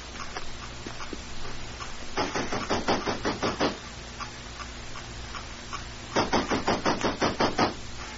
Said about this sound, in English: Come on, we'll knock at the side door of Tashar Shung's house.